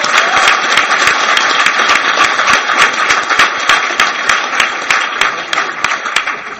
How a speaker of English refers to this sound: I just want to say thank you to CPR, CNA, for hosting such a wonderful, wonderful convention. And for those that appreciate this convention like I do, can we get them a round of applause right now?